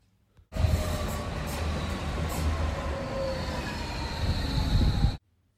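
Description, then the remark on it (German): A subway train rumbles steadily along the rails, a dense low roar with faint metallic squeals and whining tones riding on top, loud throughout before cutting off abruptly. “Genau, die Familie ist mit der U-Bahn gefahren.”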